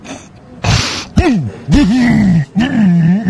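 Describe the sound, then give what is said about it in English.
Someone makes an exaggerated, gagging throat clearing: a short harsh rasp, then three drawn-out, gravelly groaning hacks with wavering pitch, loud and wordless. “No, I'm clearing my throat.”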